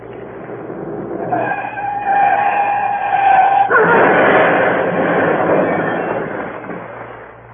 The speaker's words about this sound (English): Richard Hannay, wanted for Portland Place murder. Reported in stolen car. Large green Daimler speeding south.